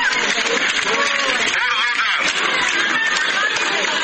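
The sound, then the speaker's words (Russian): A large crowd applauds in Theatre Square in South Ossetia as the election winner comes onto the stage, a dense, steady roar of clapping that holds at full volume for about four seconds, with cheering voices mixed into the noise. “Под аплодисменты вышел на сцену Театральной площади уже сам победитель.”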